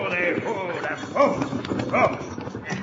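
Busy clatter of horses' hooves as a stagecoach pulls to a halt during a holdup, with loud bursts of vocal sound over the rough, continuous hoofbeats.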